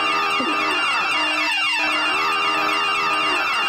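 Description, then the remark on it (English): A loud, blaring spoiler alert alarm horn sounds continuously for about four seconds, a harsh buzzy tone thick with overtones whose pitch wavers and dips briefly midway, with no talking. “It's my spoiler alert alarm, actually.”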